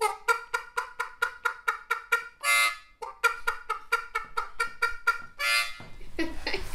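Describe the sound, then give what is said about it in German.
A harmonica player at a school after-care club mimics a chicken on the harmonica with a quick, steady run of short reedy clucks, broken twice by a harsh, buzzing squawk-like chord, then a wavering high wail at the end. “Ein Huhn. Genau.”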